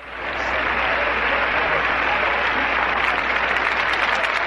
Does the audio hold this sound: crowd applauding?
yes